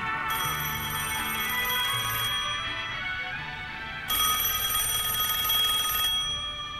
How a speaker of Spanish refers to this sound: En la caseta del pueblo suena el teléfono.